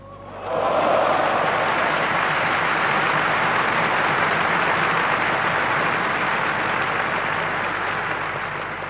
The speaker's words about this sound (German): Applaus.